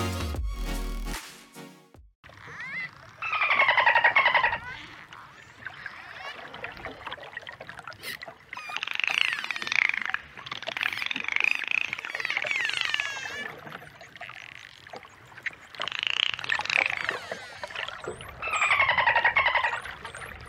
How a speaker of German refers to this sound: Vielleicht heisst ein paar von euch schon erkannt, die Geräusche kommen von Delfinen, ganz spannende Tiere.